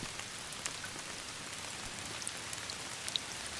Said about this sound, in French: Le dernier jour, il pleut. De grosses gouttes de pluie fouettées par le vent.